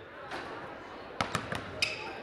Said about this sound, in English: That's a sound I've been hearing a lot this winter. Basketballs bouncing off the hardwood floor and glass backboard.